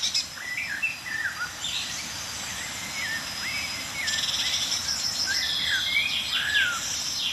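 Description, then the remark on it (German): Several birds call and sing over one another, blackbird, chaffinch and tit among them: short varied whistles and chirps repeating throughout over a steady high insect-like buzz that grows louder halfway through. “Und ja, Amsel, Buchfink, Meisenrufer.”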